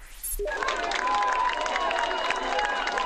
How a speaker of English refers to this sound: You're listening to cheers as French rescuers made a miraculous rescue, pulling a teenage girl alive from the rubble 2 weeks after the earthquake.